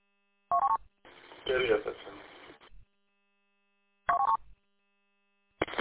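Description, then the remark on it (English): A phone rings in short electronic bursts, repeating a few seconds apart, with a muffled, tinny voice talking between the first two rings. “Oop, incoming phone call.”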